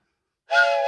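After a moment of silence, a steam locomotive whistle blasts loudly and steadily at dawn at a railroad track-laying camp, a breathy, chord-like tone with hissing steam that carries on to the end without fading.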